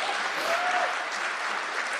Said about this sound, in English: All right. What percentage of this room is going to see this movie? Wait, clap. You have to clap for broadcasting.